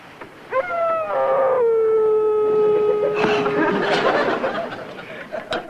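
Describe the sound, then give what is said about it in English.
A dog downstairs lets out one long, loud howl that rises quickly and then holds a steady, wavering tone for several seconds before breaking off into rough, muffled noise. “you've got to go downstairs and do something about that dog.”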